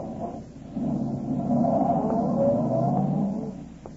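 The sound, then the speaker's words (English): A car engine turns over and catches as Cooper steps on the starter, then revs with a rising hum as he drives the car off along the street, steady and fairly loud before easing off near the end. No one speaks. “Cooper walked to his car, got in, stepped on the starter, and drove off.”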